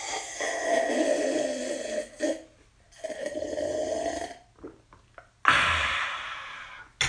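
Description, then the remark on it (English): Someone takes a little sip of a drink: a few breathy, slurping draws with short pauses between them, then a sharper exhale-like burst near the end. No talking. “You can enjoy that cough, and now I'm going to have a little sip.”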